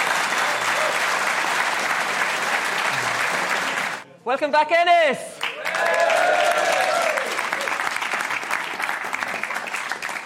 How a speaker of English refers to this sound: Listen, right, well, that's all we have time for part one, and we'll be back with part two very soon. So give a big round of applause for the three panelists.